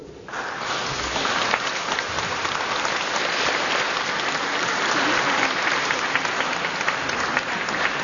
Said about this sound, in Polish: Bardzo dziękujemy chórowi. Brawa dla chóru.